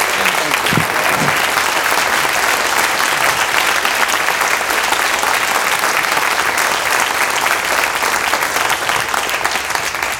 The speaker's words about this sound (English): Thank you. I always like when they applaud first.